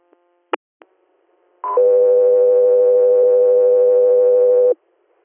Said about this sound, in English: Chester Air, stand by for tones.